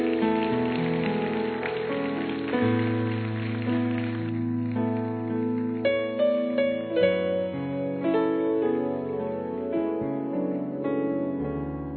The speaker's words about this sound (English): Let's give these folks a big, big, big hand clap.